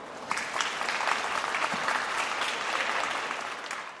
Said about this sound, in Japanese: 八尾高校書道部の皆さんにもう一度盛大な拍手をお願いします。